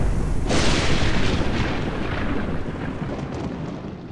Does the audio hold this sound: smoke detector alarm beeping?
no